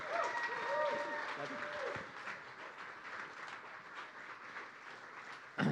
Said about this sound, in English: New Chapel, would you stand on your feet and put your hands together